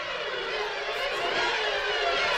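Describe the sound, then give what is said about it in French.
Eerie horror trailer music from the very first trailer for The Exorcist: a dense, harsh droning wall of sound that holds steady and loud for the whole stretch, with a grating, dissonant texture and no voices. “J'ai retrouvé un petit extrait de la toute première bande-annonce de L'Exorciste.”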